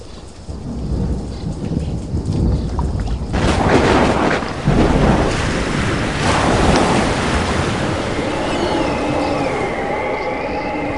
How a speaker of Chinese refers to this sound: 起了暴风，波浪打入船内，甚至船要满了水。